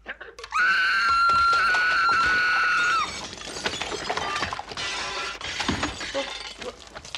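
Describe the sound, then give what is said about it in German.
A piercing, sustained high-pitched scream holds for a couple of seconds, so shrill that it shatters glass, breaking off into loud glass shattering, followed by a long spill of crackling, tinkling shards. “Und wenn sein Getrommel nicht reicht, dann kann er auch noch so schrill schreien, dass Glas zersprengt.”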